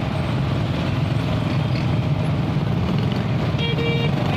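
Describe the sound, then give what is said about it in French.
Steady street traffic in a Sahel town under a haze of suspended dust, with a continuous engine rumble from passing cars, loud throughout, and a brief high tonal sound near the end. No one speaks. “Dans la circulation, certaines personnes adoptent le port du masque pour se prémunir contre les conséquences de cette poussière en suspension.”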